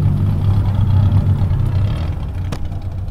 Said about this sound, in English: A little before nightfall, I drove to the outskirts of San Juan, to a big grassy lot where hundreds of people were showing up in cars with souped-up engines.